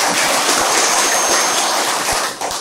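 A crowd breaks into steady, loud applause, a dense wash of many hands clapping at once that holds for a couple of seconds before starting to thin out at the end.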